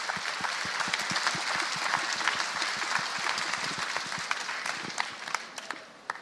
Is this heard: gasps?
no